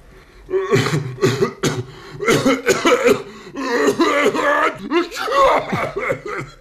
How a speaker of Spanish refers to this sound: Es una combinación de estornudo y tos. Le hemos llamado estosnudo.